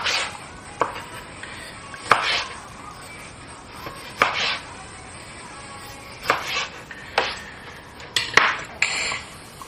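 A knife chops a quarter of a lime into smaller pieces on a cutting board while making mojitos, in irregular sharp strikes, about ten crisp cuts with short pauses, over a faint steady background hiss. No one speaks.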